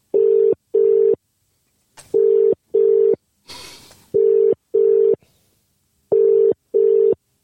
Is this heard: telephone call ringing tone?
yes